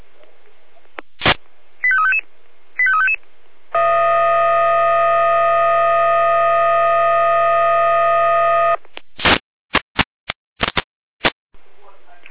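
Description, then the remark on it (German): A German fire brigade radio alert tone sequence from the Jena control centre, alerting the Freienorla fire brigade to a tree fallen onto a power line: a click, two short warbling beeps, then a loud steady buzzing tone held for about five seconds, ending in a rapid series of clicks and pulses. “Hier haben wir den Alarm.”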